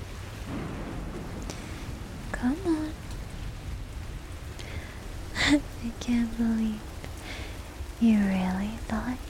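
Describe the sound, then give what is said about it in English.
Steady rain hisses throughout, a dense, even wash of noise, while soft, breathy voices murmur and speak briefly over it. “You're freezing and wet. Let's get you out of this rain, all right?”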